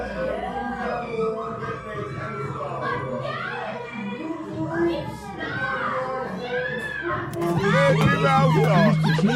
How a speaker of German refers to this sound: Ganz nette junge Leute. So unerträglich, so eine Teenager-Party miterleben zu müssen.